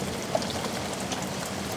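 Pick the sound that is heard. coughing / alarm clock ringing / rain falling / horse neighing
rain falling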